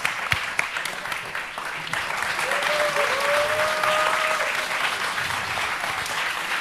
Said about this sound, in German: Gib noch mal kurz Applaus für die Postleute.